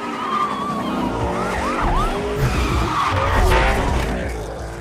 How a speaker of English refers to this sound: What's the process for creating sounds that are intended to sound real, like the sound of a car in Need for Speed?